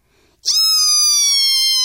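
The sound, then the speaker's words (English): After a brief quiet moment, a voice imitates a squeaky door closing with a loud, sustained, high-pitched creak that slides slightly downward in pitch and holds steadily to the end. “And she closed that squeaky door.”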